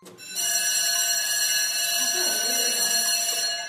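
A school bell rings for the second time in one continuous, loud, bright metallic peal lasting a few seconds, steady and buzzing before it cuts off.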